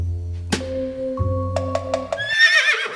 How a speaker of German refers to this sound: Ihr habt es gerade gehört. Da hat ein Pferd gewiehert und hat uns die richtige Lösung verraten.